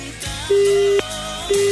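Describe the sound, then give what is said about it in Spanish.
A telephone busy tone after a call is hung up: a steady, fairly loud beep pulsing on and off in even half-second bursts, with no voices. “Oh, no quiere ni contestar el teléfono, weón. Cortó.”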